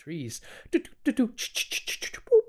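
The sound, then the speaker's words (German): A nightingale sings a short, varied phrase: a warbling opening, sharp clicking notes, a quick series of high repeated chirps, then a clear whistled tone at the end. The song is fairly loud. “So hört sich eine Nachtigall an. Die klingt ja wie ein seltsames elektronisches Gerät.”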